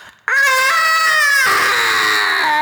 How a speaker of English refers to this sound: Suddenly, the prayer is blotted out by an inhuman scream that rises up from beneath the wooden floor.